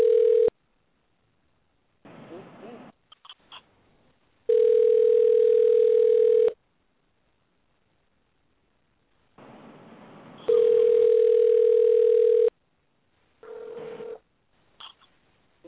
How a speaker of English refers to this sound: Sorry for the phone ringing in your ears, guys.